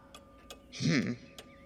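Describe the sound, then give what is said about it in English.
A small clock ticks with a few light, sharp clicks spaced apart, briefly interrupted midway by a short, louder vocal sound before the ticking continues. “And you hear the tick, tick, tick, tick, tick, tick, tick of something else, something a little bit smaller.”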